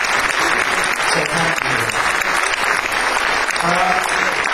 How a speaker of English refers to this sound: So I think a round of applause.